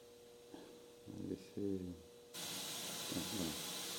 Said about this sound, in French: Donc, vous entendez ce bruit blanc, d'accord ? Il est réparti de façon un peu trop homogène, mais...